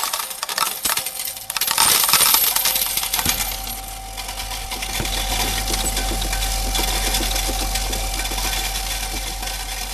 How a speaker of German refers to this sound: Ich habe hier mein Sparkessel. Das werde ich jetzt leeren und auf mein Sparkonto schreiben lassen. Weißt du, wie es wohl tönt, wie die Maschine das Geld zählt? Das scheppert mich.